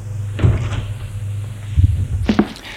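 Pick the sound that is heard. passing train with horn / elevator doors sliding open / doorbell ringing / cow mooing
elevator doors sliding open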